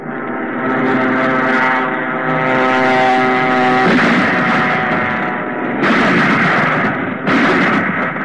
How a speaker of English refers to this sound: Now there are some of our new 30-mile guns operating from railroad